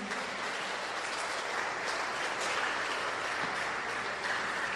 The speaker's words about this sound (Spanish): Un fuerte aplauso a la Virgen.